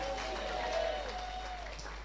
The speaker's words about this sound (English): Clap your hands and shout and receive it.